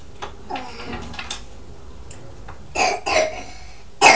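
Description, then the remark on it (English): A person coughs several times in short, harsh bursts, two close together and then one more a moment later, after a stretch of quiet background with faint rustling. “Oh, bad cough, haven't you?”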